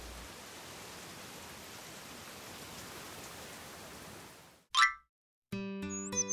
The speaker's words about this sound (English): Oh, how it rained. One day, 2 days. It fell for a long, long time.